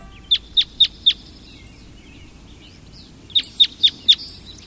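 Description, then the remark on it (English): A red crossbill calling: two bursts of four sharp, high, evenly spaced kip notes, separated by a pause of about two seconds, over a faint low background hiss. “We're hearing the call of a red crossbill.”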